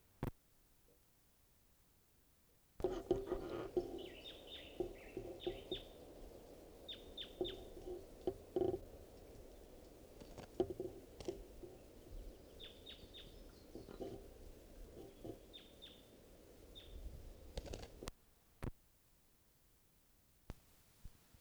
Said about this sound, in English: Recording a wild bird.